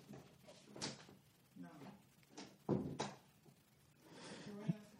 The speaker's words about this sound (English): Like, I got these new locks on the door. I thought she was locking the door.